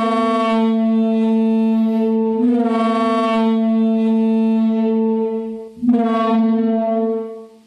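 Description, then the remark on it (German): A simulated Parasaurolophus call covering the range of tones it may have produced: a loud, sustained, brassy tone somewhere between a trombone and a foghorn, growing louder, held for several seconds with two brief breaks, no voices present. “Also so irgendwas zwischen einer Posaune und einem Nebelhorn.”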